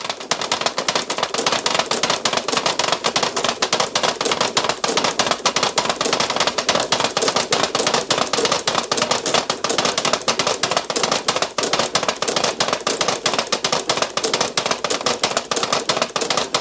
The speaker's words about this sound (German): Es ist 12 Uhr. Sie hören die Ratschen zum Karsamstag aus der Kirche in Rietz im Tiroler Oberinntal.